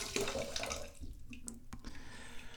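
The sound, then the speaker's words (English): A bathtub tap runs in a steady rush of water filling the bathtub, then is shut off, leaving a quieter wash with a few sharp drips and clicks. “So let's turn the water off here.”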